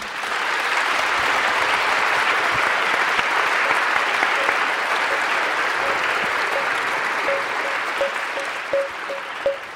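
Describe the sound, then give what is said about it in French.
A large audience at a round table of the Forum France Culture "L'année vue par les sciences" claps loudly and steadily for the panelists for the full stretch, a dense, unbroken wash of hands. In the second half, faint short tonal blips repeat underneath, quickening toward the end. “Donc je vous propose effectivement qu'on applaudisse bien fort Hervé Lebras, Agathe Ozen, Brice Lalonde et Pierre-Henri Gouillon.”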